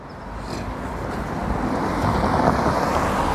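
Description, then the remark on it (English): A car rushes past close by, nearly running over the pedestrian recording, its broad whooshing roar swelling steadily louder over a few seconds amid gusty wind noise on the microphone, with no voices. “Run me over. Almost the second time I got ran over today.”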